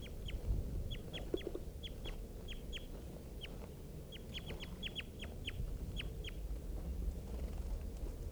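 Freshly caught birds calling in a steady series of short, sharp, high notes, often in quick pairs or triplets, over a constant low rumbling background. Nobody speaks.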